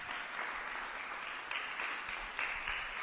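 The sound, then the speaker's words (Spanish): A crowd breaks into steady applause welcoming a speaker introduced at a panel discussion, a dense wash of many hands clapping at a fairly even level throughout, with slight swells and no voices standing out. “¡Fuerte el aplauso!”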